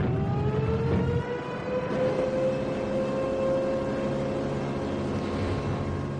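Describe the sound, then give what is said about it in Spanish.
An air raid siren in Guernica, Spain, marking the German and Italian bombing of 26 April 1937, winds up in pitch over the first second or so, then holds a loud, steady, harmonically rich wail over a low rumbling background, with no voices. “Esta sirena fue el preludio de la devastación sin precedentes que sufrió Guernica el 26 de abril de 1937 cuando la Legión Cóndor alemana y la aviación legionaria italiana descargaron durante horas una lluvia incesante de bombas”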